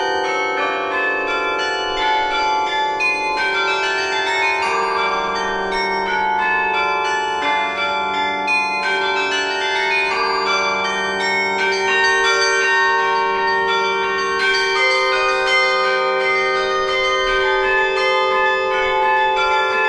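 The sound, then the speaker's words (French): Carillon bells ring out a steady melody from a CD recording, their overlapping tones sustaining and blending into a rich, shimmering wash that fills the whole stretch at an even, fairly loud level with no voices. “ce que l'on vient d'entendre là, ce n'est pas le carillon de Saint-Bénigne, c'est un disque que vous venez de réaliser.”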